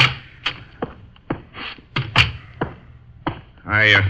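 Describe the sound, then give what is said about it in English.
Several sharp knocks on an office door, spaced unevenly over a few seconds against a low steady background hum, followed by a brief spoken voice at the very end. “Oh, someone else decided to knock first.”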